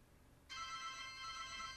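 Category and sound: signal or alarm, phone ringing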